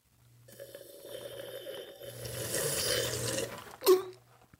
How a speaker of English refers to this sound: Who is slurping? Slurping cough. Slurping the cough?